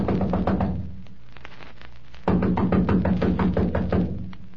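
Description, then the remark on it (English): Two loud bursts of rapid knocking on a door at the address given for Ed Farley, a short run of raps, a brief pause over a low steady hum, then a longer, insistent series of knocks that fades at the end. “Come on, let's knock.”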